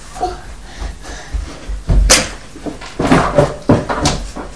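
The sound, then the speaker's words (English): A door being shut, with a sharp wooden thud followed by a few more bumps and knocks, set against quiet background rustling. “Shut the door like that.”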